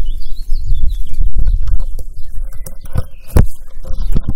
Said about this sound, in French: Ah oui, on entend les petits bruissements des feuilles quand on cueille là.